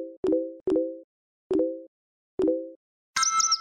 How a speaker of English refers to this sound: Ah, there's nothing like the sound of your phone to let you know everything is all right. Where would you be without the notification sounds of iMessage, Twitter, and Skype to remind you of your daily movements?